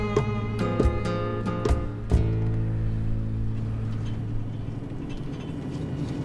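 A car driving through the streets of Nouakchott, heard from inside: a steady low engine drone with road rumble, a few sharp knocks and rattles in the first seconds, no one speaking.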